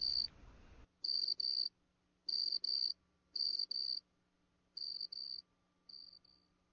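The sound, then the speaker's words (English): A cricket chirps by rubbing its wings, in steady, evenly spaced bursts of shrill, pulsing trills, clear, with a brief rustle at the start and a faint low hum underneath. “The cricket comes out from underground. It rubs its wings to make the sound chirp, chirp.”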